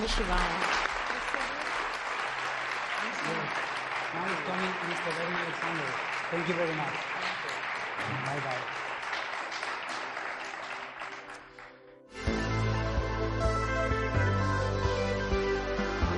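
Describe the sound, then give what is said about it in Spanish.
A crowd applauds a guest speaker on the show Ecos de lo remoto with dense, steady clapping for about twelve seconds, thinning slightly before it stops, and then loud tonal music begins. “Un aplauso para ella.”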